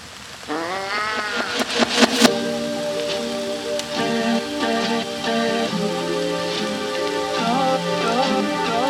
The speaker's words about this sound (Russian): Ночь, небо затянуто, дождь барабанит нещадно по крышам и стеклам.